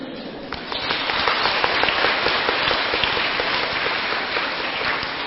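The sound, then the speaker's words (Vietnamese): An audience bursts into applause, many hands clapping in a dense, steady patter that swells after the first half-second and holds at a lively level throughout. “Nghe cái vị vỗ tay mà có an ủi.”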